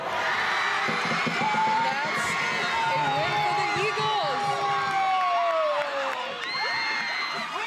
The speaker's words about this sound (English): The girls are screaming in celebration as they lift a huge blue banner with the words regional champions on it.